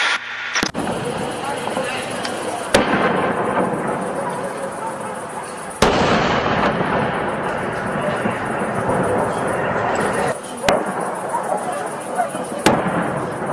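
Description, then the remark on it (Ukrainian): Artillery shelling: five sharp, loud booms at irregular intervals over a continuous noisy backdrop, with anxious dogs barking and people's voices mixed into the din. “Чуємо тривожних собак, чуємо навіть людей і чуємо артобстріл.”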